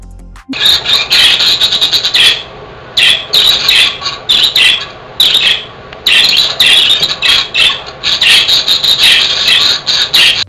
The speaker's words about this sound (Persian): با این صدا مرغ عشق ها میخوان بگن که سالم و شادن و همه چی خوبه. مخصوصا وقتی دست جمعی زندگی میکنن، با این صدا به هم دیگه اطمینان خاطر میدن که شرایط به وفق مراده.